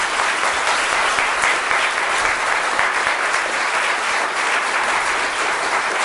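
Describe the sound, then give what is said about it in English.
Sustained applause from a large conference audience for the Minister, who spoke from the podium and took questions from the floor: a dense, steady wash of many hands clapping at an even volume for several seconds, with no voices rising above it. “So a hand of applause for that, please.”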